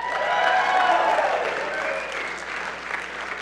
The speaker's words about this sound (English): We're not clapping because we're surprised she said yes. We're clapping because we're happy for you.